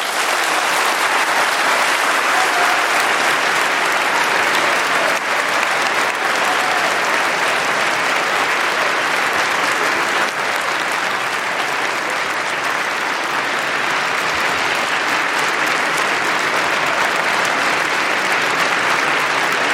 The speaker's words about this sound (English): I think Anne Applebaum certainly got the most applause there and a standing ovation from your fellow speaker there.